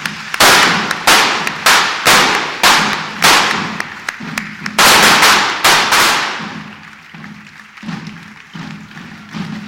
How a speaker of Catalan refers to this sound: I quan peten tots els trons ja és apoteòsic.